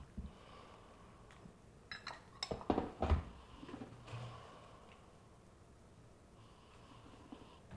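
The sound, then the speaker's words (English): Breathy inhales and exhales, a few audible sniffs and breaths in quick succession, as someone smells tea from a cup, breathing in and out three times, with faint clinks of porcelain and no talking. “So what you do is you bring it in and you breathe in and breathe out 3 times and you can pass it down.”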